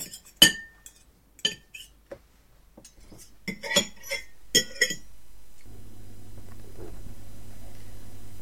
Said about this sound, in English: Rose emptied the crockery and cutlery into the sink